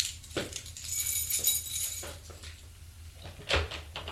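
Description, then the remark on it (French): Keys jingle in quick metallic bursts, fairly quiet, broken by a few soft knocks and thumps as a key is put into a door lock. No one speaks. “Des pas dans les escaliers. Des clés.”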